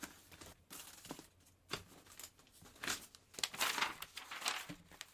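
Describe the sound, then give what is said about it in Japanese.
Paper rustles and crinkles in irregular bursts, as a written-on sheet of paper is unfolded and handled, growing louder and busier toward the end. No one speaks. “紙だって書いてもらったし、ほら。”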